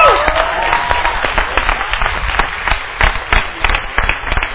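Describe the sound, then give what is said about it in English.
A crowd applauds nine new graduates of a class steadily, many hands clapping in a dense, even patter that holds at a fairly loud level for several seconds, with a few sharper claps standing out. “Let's give them a round of applause real quick here.”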